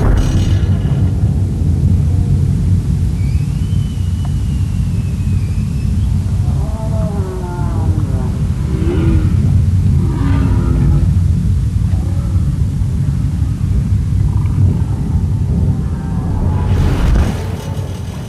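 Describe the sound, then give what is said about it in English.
A heavy, continuous low-pitched drone of roaring boat engines rumbles underwater in Glacier Bay in summer, where humpback whales live, with faint whale-like tonal calls drifting in and out above the steady mechanical noise. “But still, the humpbacks that are there in the summer have to live alongside roaring boat engines.”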